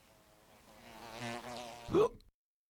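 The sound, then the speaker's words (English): A fly buzzes in a steady, reedy drone that swells and wavers for about two seconds, then peaks in a sharp, louder burst before abruptly cutting to silence. “There was an old lady who swallowed a fly.”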